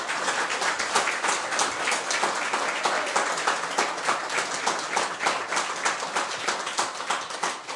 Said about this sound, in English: So I would like you, please, to give them a hearty round of applause.